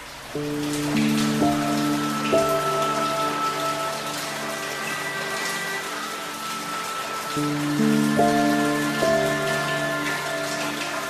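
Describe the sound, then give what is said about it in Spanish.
Steady rain patters as a dense, continuous spray of small drops on window glass, with soft sustained musical chords drifting underneath; no one speaks. “Veo a través de mi ventana como pequeñas gotas de lluvia tintinean sobre el cristal, se estremecen bajo la suave caricia de la brisa, zigzaguean y se deslizan hasta morir en el alféizar”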